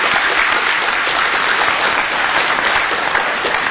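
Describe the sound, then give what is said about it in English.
A crowd at a catastrophe risk seminar applauds a plenary speaker steadily, the dense crackle of many hands clapping at once, loud and sustained without pause and with no voices over it. “I think she's done a wonderful job, and I think we should give her a round of applause.”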